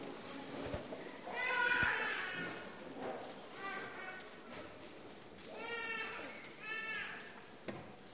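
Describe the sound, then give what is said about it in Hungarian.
A small baby cries in several wavering, high-pitched bursts with short pauses between them, reverberant, with faint background noise and occasional thumps, during a church service while the microphone is being changed. “Milyen jó, hogy sírt ez a kis baba, így volt egy kis idő itt a mikrofont átcserélni.”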